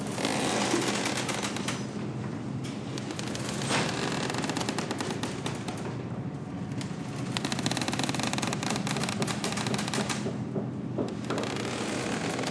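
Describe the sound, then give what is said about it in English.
A Red Sea liveaboard boat sailing south at sea toward Sudan, with a steady low rumble of engine and water beneath dense, irregular creaks, clicks and knocks from the hull that continue throughout. “So these are the sounds of a Red Sea liverboard sailing south.”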